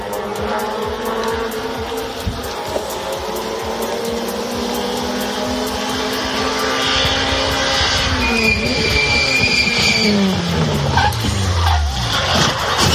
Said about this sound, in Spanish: Ese era el momento en el que uno de los participantes perdía el control de su coche y atropellaba a varias personas que veían la carrera.